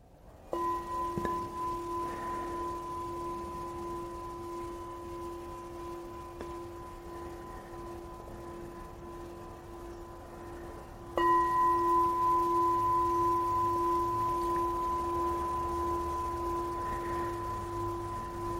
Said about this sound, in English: Happens to your thinking as you hear this bell ending the sitting?